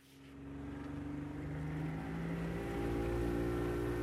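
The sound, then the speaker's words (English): A motorboat engine drones steadily and grows slightly louder as the boat pulls away, heading out into the bay, its low harmonic hum joined by rushing water and wind noise, with no voices. “The boat heads out into the bay.”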